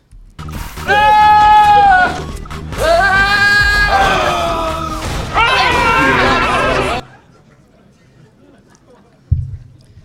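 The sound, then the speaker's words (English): Three loud, drawn-out goat screams, used as a slide transition sound, follow one another in quick succession, each a harsh, wavering bleat that sounds almost human, then silence with a brief low thump near the end. “It's probably bad to confess this, but the whole reason that I made this talk was because I had the idea to do slide transitions of screaming goats.”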